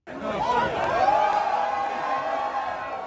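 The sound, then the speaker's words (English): A large crowd cheers and whoops as the first Green Line extension train pulls into Medford/Tufts station in December 2022, many overlapping excited voices forming a loud, continuous roar that starts abruptly and holds steady for a few seconds. “December 2022, big crowd watches the first Green Line extension train pull into Medford Tufts.”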